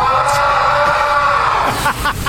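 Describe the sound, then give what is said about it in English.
A man lets out a long, loud, sustained primal scream in the Seattle clubhouse, in the background of an interview, holding steady for about two seconds before breaking off, echoing slightly. “That's Julio Rodriguez's primal scream in the background of another interview in the Seattle clubhouse.”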